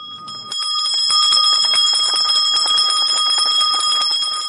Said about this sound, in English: Deng Deng Hok, South Sudan's General Education Minister, rings a bell marking the commencement of secondary school final examinations at Chinese Senior Secondary School in Juba.